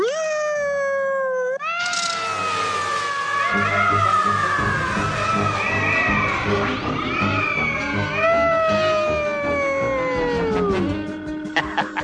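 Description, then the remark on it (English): A loud, continuous siren-like wail that sounds like a yowling cat, sweeping up and then slowly sliding down in pitch for about eleven seconds before cutting off. No one talks. “My siren's getting better every day.”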